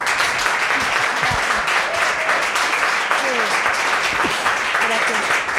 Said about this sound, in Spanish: Hombre, oye, este aplauso no te lo quita nadie, ¿eh?